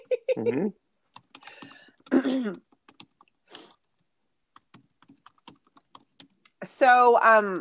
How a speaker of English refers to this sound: Oh, we can hear you're typing, somebody.